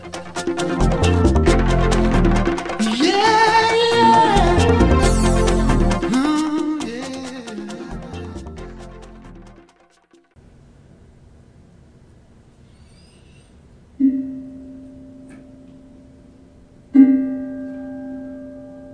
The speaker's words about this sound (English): The mindfulness bell. It invites us to stop and to consciously breathe.